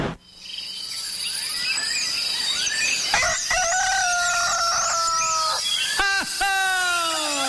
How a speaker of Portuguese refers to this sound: O galo tá cantando, vamos levantar.